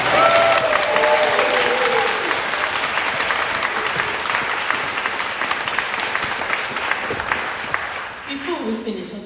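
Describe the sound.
A crowd applauds steadily for about eight seconds, a dense, loud wash of clapping that thins out and fades at the end, with faint voices heard briefly beneath it.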